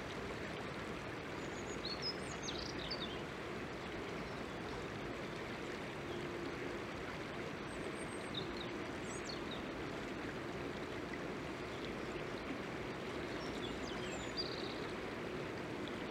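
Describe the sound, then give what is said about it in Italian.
A river flows steadily, heard while sitting in meditation in the riverbed, with a continuous, dense rushing and burbling that never lets up, while a few faint bird chirps sound now and then over the water. “Qui seduti in meditazione nel letto del fiume. Ne ascoltiamo il dolce suono.”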